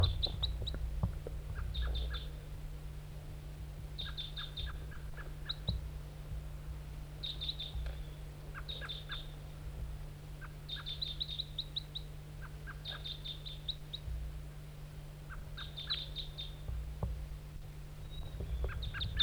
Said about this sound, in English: Wild bird, back to the decoy.